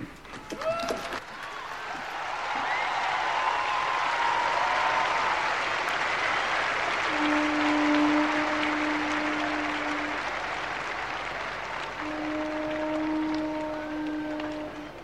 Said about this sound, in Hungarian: Kedves hallgatóink! Újabb tapsviharral köszönték meg, mondhatjuk az irgalmasság szentévének utolsó audienciáját, hiszen vasárnap bezárul ez a rendkívüli szentév.